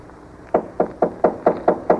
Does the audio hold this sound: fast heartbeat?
no